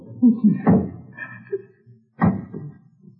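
A door is opened: two sharp wooden thumps about a second and a half apart, with a faint creak between them, in otherwise quiet surroundings.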